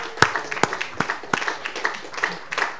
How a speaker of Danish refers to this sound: Come on, why don't we give the Holy Spirit a huge ovation? Come on. Lad os lige give Helligånden en kæmpe klapsalve.